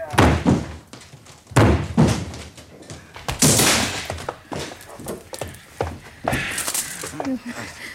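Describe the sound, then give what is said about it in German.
Heavy, repeated thuds and cracking impacts as a locked door is forced open, several loud blows a second or so apart, with splintering crashes near the end and muffled voices in between. “Gehen Sie weg von der Tür, ja? Ich breche Sie ein!”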